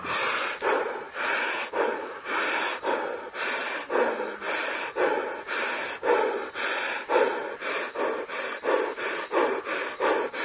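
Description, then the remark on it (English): Forceful, rapid breath-work breathing repeats in a steady rhythm, about two breaths per second, each inhale and exhale loud and airy with a wheezy, gasping edge, with no talking. “Total relaxation, total systemic relaxation, and powerful continuous breathing.”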